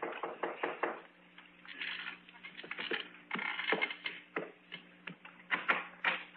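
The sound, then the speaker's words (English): Crisp clicking from a clock on a dresser, a quick run of sharp ticks that fall a little unevenly over a faint, steady low hum, with no voices. “and the only sound I heard was the ticking of the clock on my dresser.”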